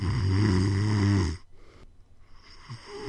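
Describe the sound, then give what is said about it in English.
A single loud snore from a person napping, a deep rumbling rasp lasting about a second, then quiet with only faint breathing. “That's the last time you'll be hearing me sleep.”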